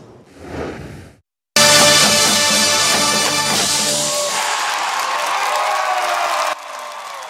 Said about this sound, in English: And the crowd goes wild.